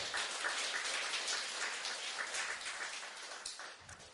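Dense, steady applause from an audience thanking a woman for her religious testimony, a continuous wash of many hands clapping at a fairly even level before it gradually eases off at the end, with no one speaking.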